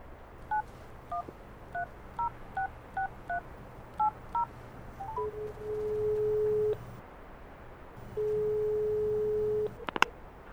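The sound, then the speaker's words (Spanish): A quick run of about a dozen beeping mobile phone keypad tones as a number is dialled, followed by two long, steady ringing tones separated by a pause, then a sharp click, with no one talking. “¡Déjame el móvil!”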